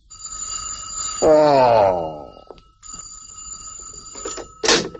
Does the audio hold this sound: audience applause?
no